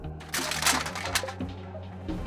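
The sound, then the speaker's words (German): A sudden burst of clattering noise, several sharp rattling impacts tumbling over one another for a couple of seconds, fairly loud, with a low steady hum underneath. “Aber dann, wie aus dem Nichts, schepperte es.”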